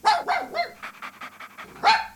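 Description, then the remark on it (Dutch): A dog barks: three sharp barks, then a quick run of softer, yappy barks, ending with one loud bark. No one speaks. “Als u denkt aan uitlaten, denkt u dan aan een viervoeter?”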